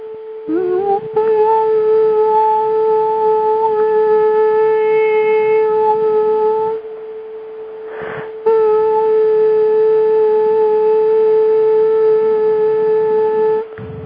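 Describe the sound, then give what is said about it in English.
A tuning fork sounds a loud, steady 441 hertz tone with faint overtones, held unwavering for several seconds, then cut off briefly before sounding again for another long stretch. No voices. “This is 441 hertz. If you like, tone along with it.”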